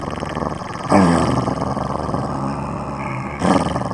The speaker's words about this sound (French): Car l'énorme chien jaune était là et le regardait. Mais cette fois, il montrait les dents et grognait, les yeux fixés sur Ali.